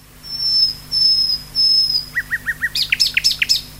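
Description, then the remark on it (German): A bird sings alone, opening with three long, thin, very high whistles, then a quick run of short chirps that rises into bright, sharp notes at a steady rhythm. “Hier ist noch ein Beispiel, das beginnt mit diesem Pfeifen, mit so einem ganz hohen Ton.”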